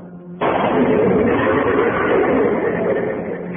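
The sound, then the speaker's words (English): After a brief low hum, a Buick car whose trunk holds cordite powder is shot and blows up in a sudden loud blast of powder and gasoline, giving way to a dense, sustained roar of flames and rumbling that stays heavy until the end, easing slightly at the close. “The car went up in a blast of powder and gasoline”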